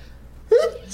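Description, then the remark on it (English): One abrupt sneeze bursts out of a quiet background, a sharp breathy blast with a brief voiced edge, then fades quickly. “Bless you.”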